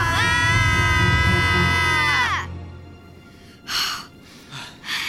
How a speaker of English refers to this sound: Yell at the top of your lungs. Do what? Hold your arms up and scream.